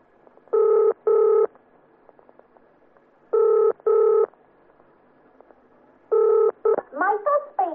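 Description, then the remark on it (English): A telephone ringing tone purrs through the line in steady double bursts as a call is placed, three ring-ring pairs spaced evenly apart, before a voice briefly comes on at the end. “If you'll just pass me over the phone, I'll ring … and see what she says”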